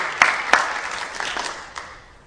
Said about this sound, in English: Let's give the community council a big round of applause for all of their hard work.